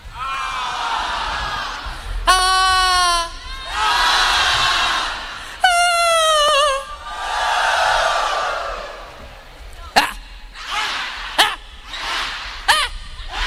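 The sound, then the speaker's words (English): A large crowd, asked for one really big, loud scream to be heard on 19th, screams together in long, loud waves that swell and fade, with shrill piercing shrieks cutting through between them, then several shorter, sharper bursts of yelling near the end. “Now one really big, loud scream so you can hear it on 19th.”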